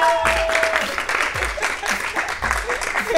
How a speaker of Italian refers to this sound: Ma che un bel applauso!